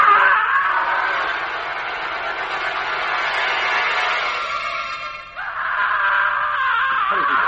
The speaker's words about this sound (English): Listen, a scream from the window. It's a body falling.